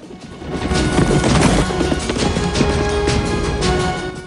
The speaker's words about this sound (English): Now, Forrest and Masu race ahead on their horses.